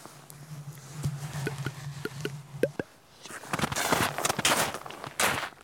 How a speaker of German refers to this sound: Ein paar Schritte gehen, stillstehen, horchen. Endlos geht das so weiter.